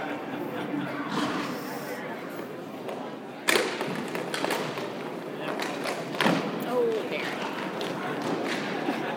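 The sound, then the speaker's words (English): A hockey puck shot smacks into a goalie pad with a sharp, solid thud over a steady murmur of crowd chatter; the shot does not go in. A second, softer impact follows a few seconds later. “The sound that you heard, that sound like it hit the pad”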